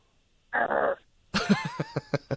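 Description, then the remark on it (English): A person imitates a growl: first a short, raspy, breathy rumble, then a string of rough voiced grunts pulsing about five times in quick rhythm, with no words spoken. “You want to growl? Can you growl?”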